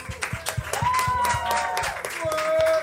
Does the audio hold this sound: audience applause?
yes